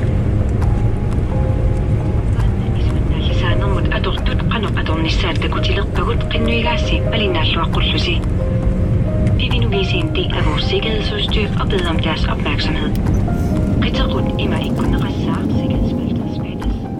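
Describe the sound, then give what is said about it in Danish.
A steady, loud roar of an airplane cabin in flight on the way to Greenland, a constant low engine drone filling the whole stretch, with voices speaking intermittently over it. “jeg sidder i flyet på vej mod Grønland.”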